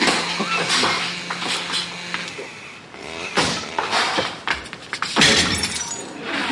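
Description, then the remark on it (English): Objects are smashed and broken repeatedly, with loud crashes and shattering glass in several bursts, debris rattling between impacts. No one speaks. “Can't men ever work out their emotions without smashing and breaking things?”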